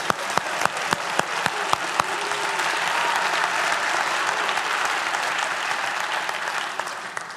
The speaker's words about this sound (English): I'm telling you, let's give God a hand clap tonight.